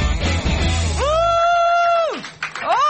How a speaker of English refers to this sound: A lot of screaming. You are the best people. You clap longest.